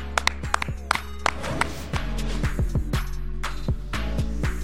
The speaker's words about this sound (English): Clap it up. Clap it up.